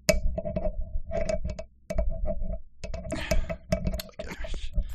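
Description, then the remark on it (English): A simulated sound of a door bolt being fiddled with for a long moment, a steady run of metallic clicks, taps and rattles with brief scraping slides, going on for several seconds with no one speaking. “I'm going to simulate the sound of the... bolt being fiddled with for a long moment.”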